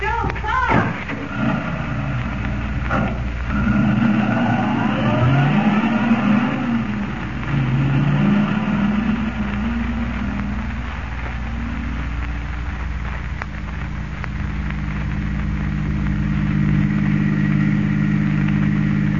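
car engine revving

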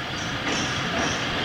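moving train

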